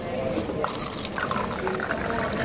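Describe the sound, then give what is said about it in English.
Water streams steadily from a water cooler in a church basement into a cup, a continuous trickle with bubbly gurgles, while faint voices murmur in the background. “Right next to it is a water cooler that everybody uses instead.”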